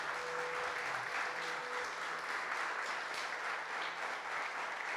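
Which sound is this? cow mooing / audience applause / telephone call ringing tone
audience applause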